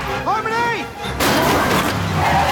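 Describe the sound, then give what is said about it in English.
A car chasing a van slams into the back of the van with a sudden loud, broad crunch that keeps grinding and rumbling, preceded by a brief wavering vocal-like whine. “The car drives right up to the back of the van and rams it.”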